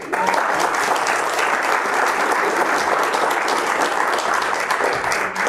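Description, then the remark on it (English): A steady wash of applause from an audience fills the whole stretch, dense overlapping claps at an even, fairly loud level throughout, with no voices standing out above it. “And you can applaud.”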